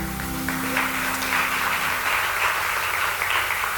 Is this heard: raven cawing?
no